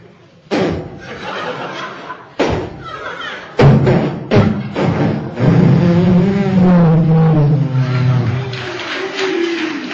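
A voice imitates kick-starting a cheap motorcycle, bought as scrap iron, to ride onto the street: a few sharp thumping bursts, then a loud, sustained sputtering engine rumble with wavering pitch, with some laughter-like sounds mixed in.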